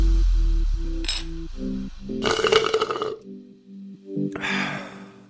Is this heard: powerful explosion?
no